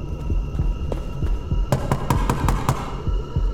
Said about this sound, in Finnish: Menemme juoksumarssia muodossa luutnantin mökin eteen. Muu linja jää muotoon, kun minä menen koputtamaan oveen.